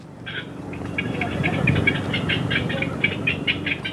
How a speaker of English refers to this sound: It's a sunny day at Lake Merritt, and … is up in a tree testing a speaker. It's playing a recording of herons. Yeah, so that would be the adults screeching, and then the kick, kick, kick, kick, kick, kick. Those are the chicks